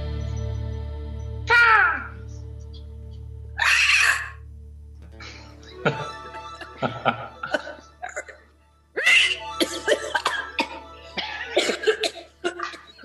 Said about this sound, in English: That hawk is a smoker's cough.